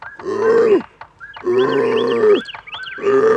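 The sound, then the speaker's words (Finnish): An ape named Akut growls in three harsh, throaty bursts separated by short pauses, loud and low-pitched, with thin rising squeals mixed in between the growls and no talking. “Miksi sinä muriset taas tuolla lailla akut?”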